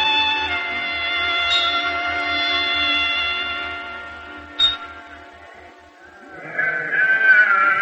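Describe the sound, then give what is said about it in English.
Sheep trampling the grain in a barley field bleat in a long, wavering, harmonic cry that holds for several seconds, followed by a brief sharp note and then another rising, nasal bleat toward the end. “Abel, get your sheep out of my barley field!”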